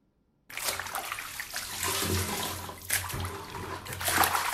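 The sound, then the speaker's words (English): Water sloshes and pours steadily as used bathwater is scooped by bucket from a tub to a toilet in a home in Harare, Zimbabwe, where the city water supply is not working, with a couple of louder splashing surges and no talking. “uses a bucket to transfer water she used to bathe from her tub to her toilet.”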